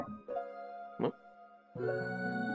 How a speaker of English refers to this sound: What was that? That was my plate. Oh, I thought it was like somebody about to like break down your door. No, I thought it was someone knocking on his door.